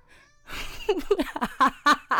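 A cat meows repeatedly, about six short, high-pitched calls in quick succession, close and fairly loud after a brief stretch of breathy noise.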